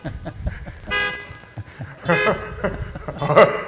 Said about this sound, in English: So if you're happy to be here, and happy the person beside you, in front of you, or behind you is here, let's beep our horns 3 times and say, praise the Lord.